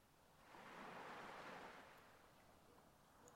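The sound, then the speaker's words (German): A single wave rolls in and washes up the shore with a broad, hissing rush, swelling after half a second and then slowly receding into a soft, steady wash. “Mit jeder Welle wird dein Herzraum freier und weiter.”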